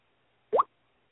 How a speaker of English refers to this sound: Thankfully, Brian's phone is still doing that fun noise that I've asked him repeatedly to mute his phone during the show. Yeah, that noise, Brian.